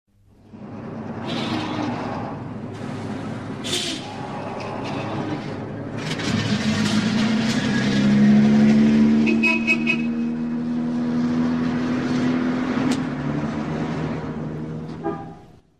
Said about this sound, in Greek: Πλοίο.